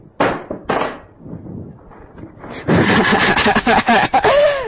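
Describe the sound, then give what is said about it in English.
Two sharp knocks are followed by a loud, sustained crash of a drinking glass being broken, full of bright clattering shards, with a brief ringing tone near the end. “He's a little glass, a little thing that people can break. Like if we braked it like this.”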